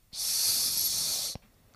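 A single sustained snake hiss, loud, lasting just over a second before cutting off abruptly, with a faint click at the end and near silence around it.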